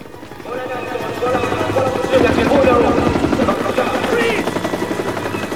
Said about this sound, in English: A police helicopter hovers overhead.